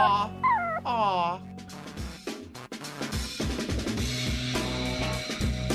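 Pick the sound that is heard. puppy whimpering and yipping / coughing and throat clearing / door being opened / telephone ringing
puppy whimpering and yipping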